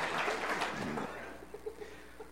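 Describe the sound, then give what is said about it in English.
A short burst of audience applause at a church worship service, dense, tapering off after about a second into quieter background noise with faint voices. “Yeah, you can clap for him.”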